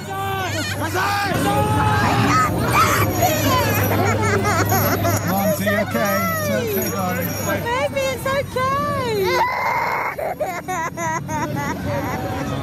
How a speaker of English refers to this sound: There are crying children, including my own. That's a lot of screaming and terror for a Santa parade.